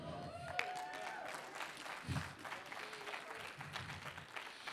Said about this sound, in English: Did I scare you into clapping, or did you really believe that? I couldn't tell. Some of you got scared, I know.